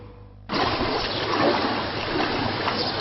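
Water splashes and churns through a flooded residential street in Borsod, Hungary, during a flood, starting abruptly after a brief quiet moment and then continuing as a steady, loud rush with no one speaking.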